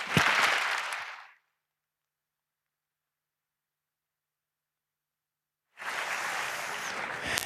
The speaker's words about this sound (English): Please give a warm hand for applause